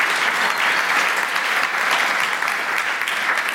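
A crowd applauds a man after he shared his personal story, a steady, dense wash of many hands clapping at an even, fairly loud level throughout, with no voices standing out above it.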